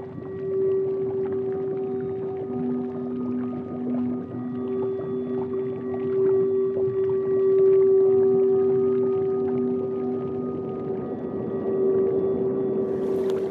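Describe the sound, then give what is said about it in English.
A boat motor drones steadily as the boat moves along a canal past buildings, a low humming tone holding throughout with faint water and wind noise beneath it, no voices present. “You can point it down just to the pure perspective of it, and being a little bit lower to the water, and at the speed we're going, looking up a lot more and really observing the buildings we're going past.”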